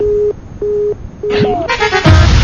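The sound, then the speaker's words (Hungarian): A telephone busy signal, after someone hangs up on the call, pulses three times in steady, evenly spaced beeps, then gives way to a burst of gliding electronic tones and a brighter, busier jingle-like sound. “Én nem is értem, hogy ilyen gyönyörű betlehemezés után így elutasítson bennünket valaki, és letegye a telefon.”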